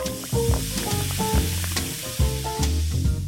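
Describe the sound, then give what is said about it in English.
Soda pours over ice for a drink of distilled non-alcoholic spirit and soda, with a steady, crackling fizz and faint gurgling tones, fairly loud, continuing without pause and with no voices. “Coming up, a certain brand of distilled non-alcoholic spirit and soda over ice.”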